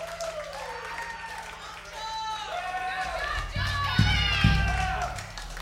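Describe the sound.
A crowd cheers and whoops with rising, sliding voices, and applause builds and grows louder toward the end, with a few sharp bursts near the close.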